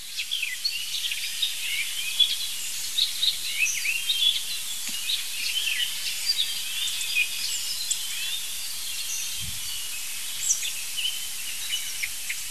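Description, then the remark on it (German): An icterine warbler, singing loudly from a blackthorn hedge, pours out a fast, restless stream of varied high chirps, whistles and mimicked notes, dense and continuous over a faint hiss, with no voices. “Das sind die wilden Imitationen des das sind hier die wilden Imitationen des Gelbspötters.”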